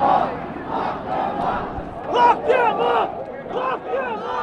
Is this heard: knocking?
no